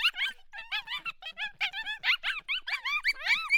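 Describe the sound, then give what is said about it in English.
A rapid, continuous string of high-pitched yips and yaps from a 10-week-old coyote pup, fairly loud, with a few longer wavering whine-like howls mixed in near the end and no talking. “MFK, pup, yip yap, howls, 10 weeks.”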